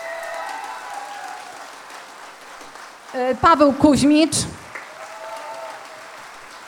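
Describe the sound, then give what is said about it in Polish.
Steady applause from a sizable audience at a festival concert, after the band's musicians are introduced, fills the whole recording, with a man's amplified voice briefly speaking over it midway before the clapping carries on. “Tak, należą im się wielkie brawa.”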